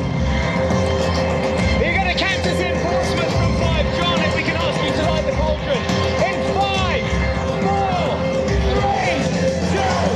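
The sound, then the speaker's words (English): A large outdoor crowd in Portsmouth roars and cheers continuously as the Olympic torchbearer on stage presents the torch to them at a torch relay celebration, with scattered shouts and whoops rising out of a dense wall of voices. The noise stays loud and steady from start to finish. “The MC, as he has done for the last 57 days, invites the torchbearer to present the torch to the crowd to Portsmouth.”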